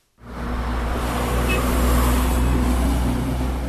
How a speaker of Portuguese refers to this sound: Escoltados por viaturas militares, mais de 100 caminhões de transporte entram na capital centro-africana, Bangui.